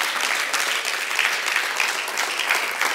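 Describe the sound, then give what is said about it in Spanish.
An audience applauds for God, a dense, continuous wash of many hands clapping at once, fairly loud and sustained throughout with no voices rising above it. “¿Puede aplaudir para Dios por eso?”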